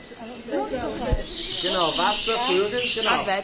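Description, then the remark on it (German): Birds call and warble over a steady, hissing rush of running water, with the calls rising and falling in several bursts. “Eine Frage, was hört ihr in diesem Raum? Wasser, Vögel.”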